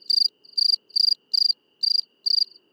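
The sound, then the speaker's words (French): A Mediterranean cricket's chirping song repeats in steady bursts, about six short trilled chirps at an even pace, clear against a quiet background. “Et donc ce grillon est très présent dans les plaines méditerranéennes, près des maisons souvent, et il agrémente donc l'automne de son chant avec les grillons d'Italie.”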